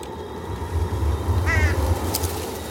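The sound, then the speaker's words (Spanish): A crow caws once, harsh, as crows move restlessly in trees, against a low, steady rumbling outdoor ambience, with a faint rustle shortly after. “Los cuervos se mueven inquietos en los árboles.”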